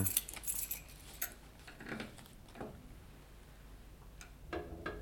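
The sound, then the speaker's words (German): Keys jingle and clink in short bursts, followed by metallic scraping and clicks as the lock of a safe is worked open with a key, fairly quiet, with no voices. “Haben Sie den Schlüssel bei sich?”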